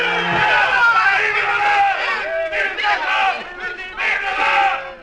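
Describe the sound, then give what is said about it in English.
A large crowd of troops roars and cheers together, a sustained swell of many raised voices shouting, rising and falling in waves for several seconds. “Through the pain that burned your nerves and punished your heart, you reached the horse and heard them cheer.”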